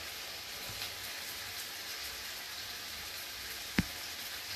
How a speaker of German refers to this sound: Und dann legen wir die beiden Hähnchengebrüste rein und braten jetzt beides so für 6 Minuten an.